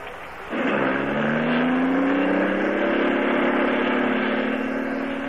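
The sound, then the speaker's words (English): A car engine starts up with a sudden surge, then settles into a steady, rising drone as it cruises along the highway on Atlantic Imperial gasoline, loud, with no voices. “This lets you hum along the highway so nicely.”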